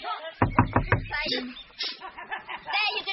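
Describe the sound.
Five quick, firm knocks on a door in an even rhythm, followed by people talking and a brief chuckle.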